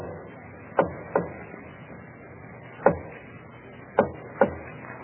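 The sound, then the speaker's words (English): Soft knocking on the wooden door of a palace nursery at 2 o'clock in the morning, five dull raps in an uneven pattern: a pair, a single knock, then another pair, over a low steady background hum with no talking. “There's a soft rap on the door of the palace nursery.”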